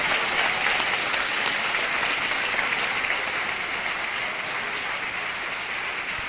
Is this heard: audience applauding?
yes